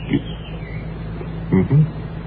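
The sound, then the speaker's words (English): A few short, squeaky bird calls, one early and then two close together near the end, over a low steady background hum. “And how is the great bird, anyway? Is he fine?”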